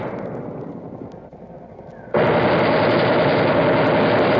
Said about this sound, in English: And just a few hundred yards to the rear, the water-cooled machine gun, spitting out hundreds of rounds a minute.